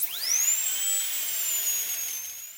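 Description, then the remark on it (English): A dentist's drill spins up quickly, then holds a steady, piercing high-pitched whine for a couple of seconds, with no voices. “The pain, the scraping, the drill.”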